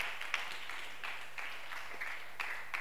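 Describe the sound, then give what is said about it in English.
A Christian audience clapping for Jesus together in a steady, rhythmic beat, the dense patter of many hands sounding fairly soft, with no one speaking over it. “Clap for Jesus.”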